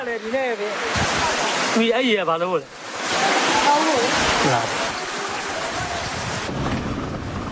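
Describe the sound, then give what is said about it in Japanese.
Rainwater pours steadily into a plastic kerosene container, collected by a girl at a monastery sheltering people after a cyclone in Myanmar, in a continuous, fairly loud hiss and splash, while a voice speaks briefly over the noise. “雨水を灯油の容器に溜める少女がいました。”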